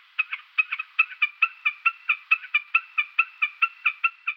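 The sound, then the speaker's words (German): A common snipe's song: a steady, rhythmic series of clipped, paired chipping notes repeated about four times a second, clear, with no other sounds around it. “Und fang an mit einem Gesang von dem Vogel, den man vielleicht noch nicht so kennt.”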